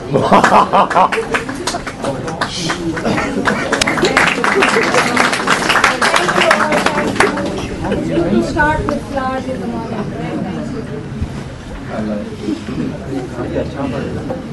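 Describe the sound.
An audience claps in a dense, steady burst for several seconds, the applause thinning out as murmuring voices and crowd chatter take over.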